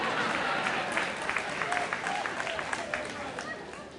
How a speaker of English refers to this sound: I don't know if that applause was a good thing. It's not what I expected just now.